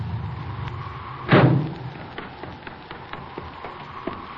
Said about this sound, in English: Hey, listen. Here comes a car.